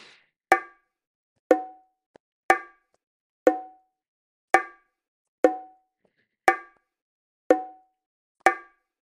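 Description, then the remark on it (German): Bilateral stimulation tones used to anchor and deepen a guided visualization: nine short, bright percussive pings at a steady one-per-second pace, alternating subtly in pitch from beat to beat, each decaying quickly into silence, with no voices. “Lassen Sie uns das mit bilateraler Stimulation verankern und vertiefen.”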